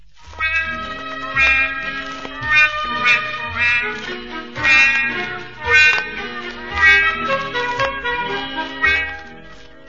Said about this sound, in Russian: А по-настоящему самое главное тут, конечно, мама утка.